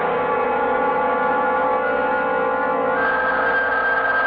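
telephone ringing

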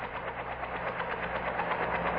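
helicopter approaching

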